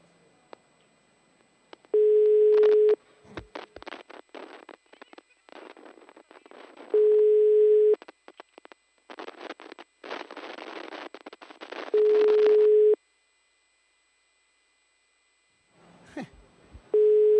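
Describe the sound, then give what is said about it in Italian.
A mobile phone call's ringing tone sounds in steady one-second beeps, repeating about every five seconds, with bursts of harsh crackling line noise filling the gaps between rings. “Squilla un cellulare, serpeggia il panico.”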